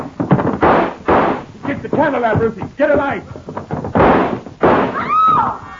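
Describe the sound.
Several loud, harsh gunshots crack out in the dark in an uneven volley, with raised, urgent voices in between, ending on a woman's high, sharp scream as she is hit.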